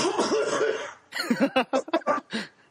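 A man coughs: a strained, raspy opening gives way to a rapid string of six or seven harsh hacking bursts, loud and uneven, with no talking.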